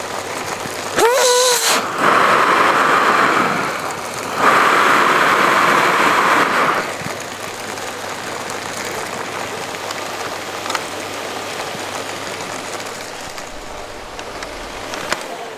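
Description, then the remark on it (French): A repaired vacuum cleaner in a recycling-centre workshop whirs up with a rising motor whine, then roars loudly in two bursts of a few seconds each before settling into a quieter, steady background whoosh. “Voilà, c'est un aspirateur qui fonctionne. Un aspirateur réparé, qui retourne dans le circuit.”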